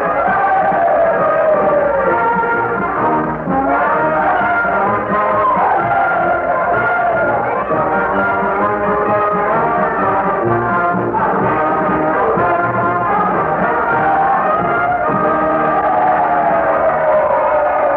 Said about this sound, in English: Oh, do you hear that? It's Dixie. Mr. Lincoln has asked the Union Band to play the Confederate song, and they've responded with a will.